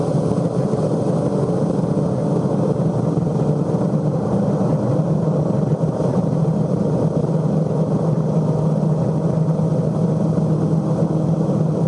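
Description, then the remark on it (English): A Formula One racing car engine roars loudly and continuously at high revs, reaching maximum speed at 10,000 revs in fifth gear, a dense, steady drone with no talking over it. “Maximum speed, 10,000 revs in fifth gear.”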